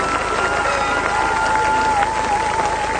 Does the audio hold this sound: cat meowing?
no